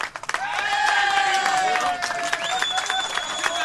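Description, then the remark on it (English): A large waiting crowd at the San Jose mine in Chile cheers loudly as a rescued miner rises to the surface in a capsule, with sustained shouts and whistles ringing over a steady bed of clapping, the excitement holding at full strength throughout. “As each miner rises to the surface, the waiting crowd erupts in cheers.”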